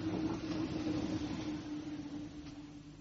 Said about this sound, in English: Ah, here's the Chislehurst train.